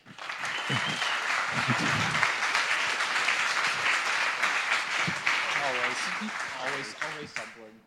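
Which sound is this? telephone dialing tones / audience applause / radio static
audience applause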